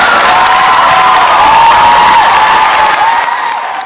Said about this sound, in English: Well, you know, we have to do this. We have to play some applause for you.